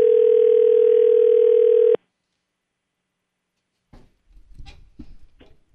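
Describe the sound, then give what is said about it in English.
A steady, loud telephone dial tone hums for about two seconds as an outgoing call is being dialed, and cuts off abruptly, followed by silence and then faint voices talking. “I'm the one guy who can't dial a phone.”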